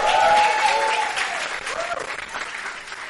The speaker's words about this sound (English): Rejoice with her and clap now.